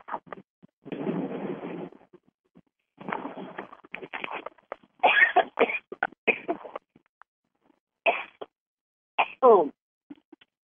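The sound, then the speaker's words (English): A caller on a call-in program sneezes: a sudden, breathy sneeze bursts out, followed by several shorter noisy bursts and vocal sounds with brief silent gaps between them. “He knows your sneeze.”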